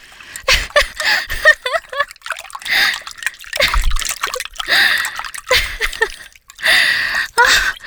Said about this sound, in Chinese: 你溅得我全身都是，亲爱的。